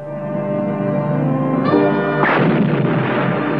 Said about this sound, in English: Gamera was lured into a rocket, which was sealed and shot to Mars. But the rocket crashed into a meteor.